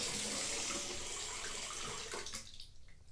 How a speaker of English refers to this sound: But first I need to turn this water off with my toes.